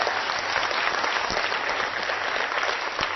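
Steady audience applause, a dense wash of many hands clapping at a fairly loud, even level for a few seconds, with no voices standing out.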